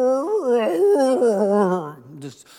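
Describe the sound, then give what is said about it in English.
A voice imitates a sad dog's whimper: a drawn-out whine that wavers up and down in pitch for a couple of seconds before breaking off with a short breathy trail. “It was the dog. He was so sad when Dad walked past him and didn't pet him.”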